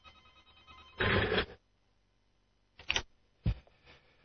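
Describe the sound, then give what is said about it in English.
A telephone rings with an incoming call to the Free Radio call-in show, a loud half-second burst followed by two shorter, sharper rings a moment later, with no one speaking. “Let's take a brief break, or actually let me just get this phone call and then we'll see what happens next, but maybe time to take a break.”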